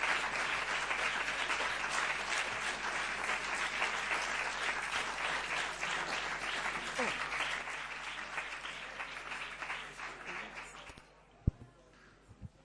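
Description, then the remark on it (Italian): Sustained, congratulatory audience applause after a talk, a dense patter of many hands clapping steadily for about eleven seconds before fading out, followed by a single sharp knock. “Sono commosso io per Transfert da questo applauso gratulatorio, veramente, ecco, sono molto molto contento.”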